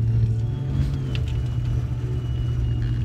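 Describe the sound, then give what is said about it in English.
A car engine revs as the vehicle pulls away, a loud, steady low rumble with a droning hum running throughout the three seconds and no voices. “He takes a giant puff, releases the smoke in the air, and then drives off.”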